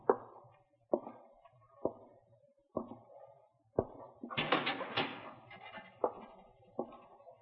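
A person goes into a cell in the corner and swings the cell door shut behind them with a loud metallic clatter and clang, after a steady series of sharp, heavy thuds about a second apart, with a couple more thuds following.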